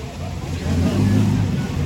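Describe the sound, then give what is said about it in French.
A steady, low droning of the distant engines of dozens of boats encircling dolphins and driving them toward a beach in the Faroe Islands, in the North Sea, swelling slightly and holding, with a faint murmur of voices blended into the background. “Là, ce sont des bruits de moteurs de bateaux, des dizaines de bateaux en train d'encercler et de rabattre vers notre plage des dauphins encore plus nombreux.”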